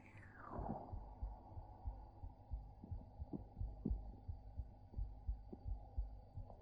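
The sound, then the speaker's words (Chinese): A steady, muffled heartbeat thumps in a low, rhythmic pattern in an ASMR roleplay meant to help the listener fall asleep for a nap, each beat a soft double pulse over a faint hum, with no voices. “睡不着了，那靠过来听一听妹妹的心跳，一会儿就睡着了好吗？”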